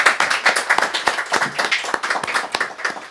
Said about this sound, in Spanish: Muchas gracias. Metemos las palmas al Señor.